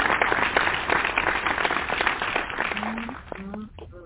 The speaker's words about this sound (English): But thank you, Pastor. I got to give you another hand praise for that one. I'm sorry. Come on, give him another round of applause.